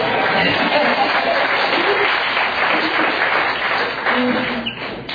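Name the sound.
clapping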